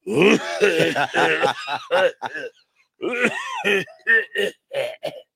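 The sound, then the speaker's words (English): A voice imitates a rough, phlegmy old smoker's cough: a long stretch of gravelly hacking and throat-clearing, a short pause, then a few more raspy coughs and grunts, fairly loud. “like a real old smoker's cough.”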